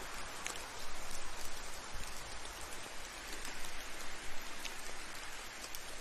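distant rain falling

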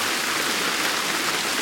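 heavy downpour rain

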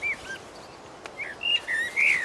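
common blackbird song

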